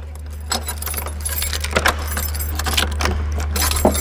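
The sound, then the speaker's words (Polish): Metal keys jangle and clink in repeated bursts as a tour guide uses them for the first time to unlock a door in Zamość, Poland, over a steady low hum of background noise. “A teraz już nasza przewodniczka Dominika Lipska, drodzy Państwo, po raz pierwszy używa tych kluczy.”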